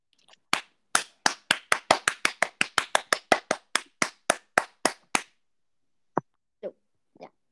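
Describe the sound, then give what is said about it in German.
About twenty quick, steady hand claps in an even rhythm, crisp and loud, from one or two people. They stop abruptly, followed by a few scattered, softer claps. No one speaks. “Einmal Applaus für diejenigen, die Kartoffelsalat mit Würstchen an Weihnachten essen.”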